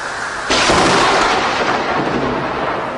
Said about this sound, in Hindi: इतने में जोरों की बिजली कड़की।